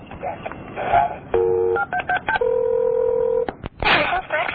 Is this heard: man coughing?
no